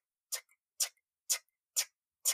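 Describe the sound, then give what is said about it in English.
A huge clock by a hospital elevator ticks loudly and steadily, five sharp, evenly spaced clicks about half a second apart, with silence between them and no voices. “When my sister was dying and I would go to the hospital, every time I got off the elevator, it was a huge clock. And the tick, tick became very loud.”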